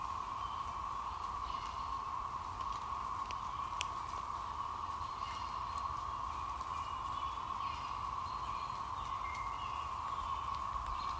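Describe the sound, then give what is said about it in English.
Sparse, faint bird calls chirp here and there in the woods, set against a loud, unbroken drone of cicadas in the trees above, with raindrops dripping and soft outdoor rustling. No one speaks. “You can also hear the birds, the dripping of the raindrops.”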